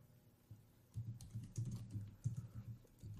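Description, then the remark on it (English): Rapid, irregular clicking on a computer keyboard while looking up how many planets there are, a steady stream of keystrokes with no voices, starting softly and growing busier after the first second. “You hear me typing?”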